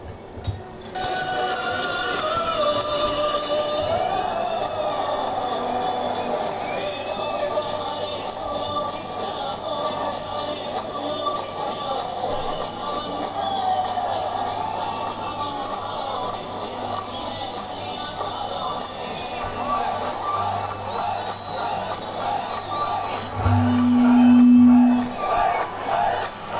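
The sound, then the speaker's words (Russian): A large crowd of Indians cheers and shouts nonstop at a ceremony, a dense, loud roar of many voices with scattered whoops, and a short low tone briefly rising above it near the end. “Но если пакистанцы сидят отдельно мужчины, отдельно женщины, и пока не выходят такие заводилы, которые начинают подстегивать толпу, они сидят насупленно и молчат, то у индийцев в это же время происходит вот такое вот действие.”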